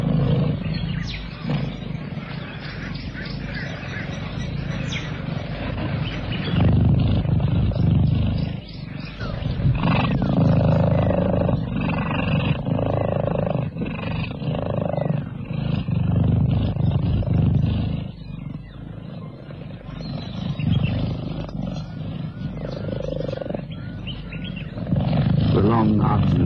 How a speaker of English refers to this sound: Beneath a tree on the water's edge, a family of cheetahs purr contentedly.